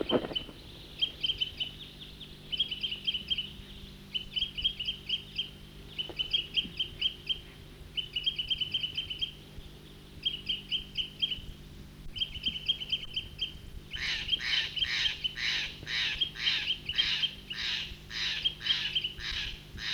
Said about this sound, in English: Stop. Big flock, about 20 birds there, back to the troopers.